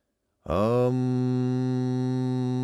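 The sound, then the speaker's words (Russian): A deep, steady hummed drone, a sacred mantra, begins abruptly and holds one low pitch with rich overtones, loud and unbroken until the end. No other voices or sounds. “Я сглотнул, прочистил горло и, настроившись, загудел сакральную мантру, связываясь с духом зверя.”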